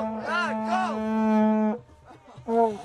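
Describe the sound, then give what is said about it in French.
A voice imitates a foghorn with a long, low, steady droning blast that wavers in tone at the start, breaks off, then starts a second blast. “La corne de brume revient.”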